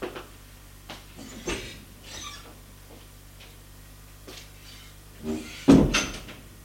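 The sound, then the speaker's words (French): A bedroom door opens with a few soft creaks and clicks of the latch, then a louder knock-like thud near the end, all against a faint steady hum with no voices. “» Elle l'embrasse sur la joue et ouvre sa porte.”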